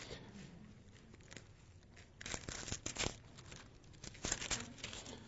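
Thin pages of a new Bible rustle and crinkle as they are turned to Job 19, with two brisk bursts of papery swishing separated by quieter handling sounds; no one speaks.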